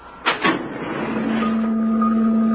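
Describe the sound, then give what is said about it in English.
A door opens with two quick clunks, then a steady mechanical hum and a low whine that holds and slowly builds, like a motorized door sliding. No voices. “Okay, open the door.”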